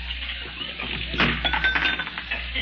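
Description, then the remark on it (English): Glass clinks and rattles in a brief jumble, bright chinking hits clustered near the middle, as if pieces tumble and knock together, with no voices. “Did you throw that glass?”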